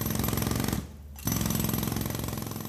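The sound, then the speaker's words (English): A loud pneumatic drill hammers in a rapid, continuous rattle at street level in Berlin amid reconstruction work, pausing briefly for about half a second before resuming at full force, with no voices. “Look out of a top floor window and you see a cityscape dominated by cranes, while down on the ground, pneumatic drills have become the ever-present soundtrack.”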